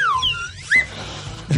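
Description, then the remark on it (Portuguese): A short, squeaky horn sound effect with bright warbling tones that slide downward and then rise again, ending in a brief loud honk, with no talking over it. “Cadê a buzininha aí?”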